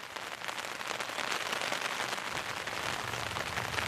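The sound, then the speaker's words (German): Steady morning rain pattering on a surface, a dense, even hiss of countless drops with faint irregular taps, continuous throughout, with no voices. “Das ist halt genau der Sound, den man irgendwie morgens nicht hören möchte, wenn man aufwacht.”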